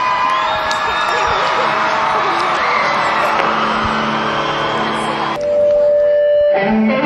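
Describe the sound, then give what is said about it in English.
A large concert crowd cheers and whoops loudly and steadily for about five seconds as the performer is about to take the stage with the stage lights off, then the roar drops away and a steadier, tonal sound takes over near the end. “Crowd's getting into it.”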